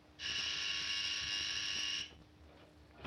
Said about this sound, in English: Will you please take your hand off that buzzer, Mr. Harden? We have other patients in the hospital, too, you know.